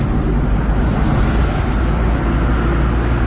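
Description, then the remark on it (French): A car drives along the road, its low, steady rumble and rushing road noise continuing evenly throughout, with no voices. “Donc on est sur la route, on va pouvoir tracer.”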